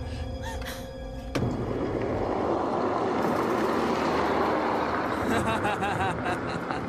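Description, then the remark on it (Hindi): Steady engine hum and low road rumble from inside a moving car, continuous and fairly loud throughout, with a brief tonal murmur near the start. “अगर नहीं रोका कि तुम्हें गाड़ी से कूद जाऊंगी। कहीं रोक दो।”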